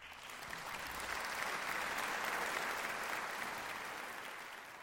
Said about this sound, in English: Some, like an applause track here.